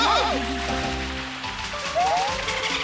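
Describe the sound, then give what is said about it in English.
Dolphins chatter in quick squeaky whistles, a burst of wavering chirps at the start and a couple of rising squeals later, over a steady bed of splashing water and background music. “Whoa! Dolphins!”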